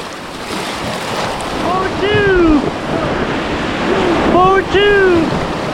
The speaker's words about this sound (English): Back on the river, we've just gone through another rapid.